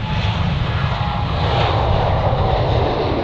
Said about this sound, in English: and claim you didn't see those planes, well, you should have taken a closer look.